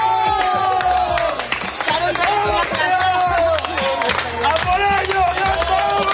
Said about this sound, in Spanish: Bueno, escuchas los gritos de emoción y los aplausos de 10 niños, todos ellos con enfermedades raras neurológicas, que pertenecen a la Asociación Guerreros Púrpura y que junto a sus familiares y un equipo médico han terminado el Camino de Santiago.